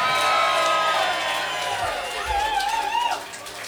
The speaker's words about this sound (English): Ladies and gentlemen, give a round of applause for CJ Bills, everybody.